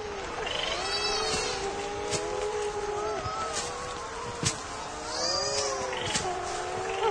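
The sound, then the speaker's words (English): A dense chorus of raucous calls from nesting seabirds at night, parents finding each other in the dark before the returning bird enters the underground nest: many wailing, moaning voices overlapping and rising and falling in pitch, with occasional sharper cries cutting through a steady, loud din. “Parents find each other in the dark by their raucous calls.”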